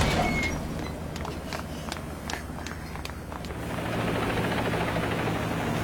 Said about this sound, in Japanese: さっきのヘリだ。 あの人たちヘリのところに集まってる。